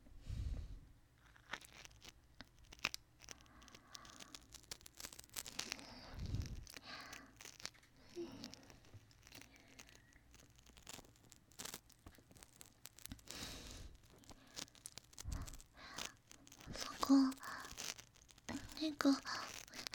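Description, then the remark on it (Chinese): Quiet mouth noises imitate biting the right ear in a role-play: a steady stream of wet clicks, crinkly crunches and soft breathy rustles up against the microphone, with no clear speech. “那狗狗也现在咬它老公右边的耳朵了，好不好？”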